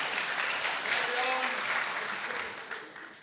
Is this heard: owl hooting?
no